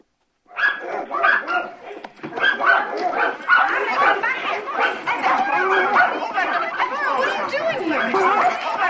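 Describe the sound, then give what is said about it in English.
Several dogs bark and yip excitedly in a courtroom in a continuous, overlapping clamor that starts abruptly and stays loud throughout, with some whimpering and a murmur of voices mixed in. “Whose dog is this?”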